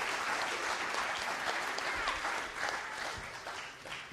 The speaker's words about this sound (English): Well done. Would you give these guys a big clap and say, you can go and sit down.